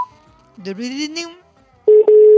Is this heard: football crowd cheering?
no